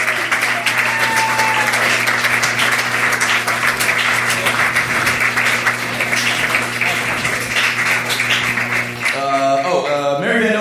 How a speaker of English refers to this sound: Everybody from round one back up on stage. Big round of applause for everybody from round one.